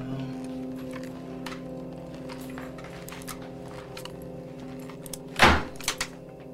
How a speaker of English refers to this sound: Hearing the front door close, Gary looks out into the empty living room, then stands for a moment in the bathroom doorway.